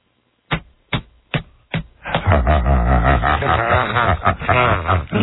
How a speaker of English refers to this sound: I would applaud if my hands had the strength to meet together, but they get caught where my stomach is. Would you mind if I applauded for you on my stomach? Let's see if the microphones can pick this up.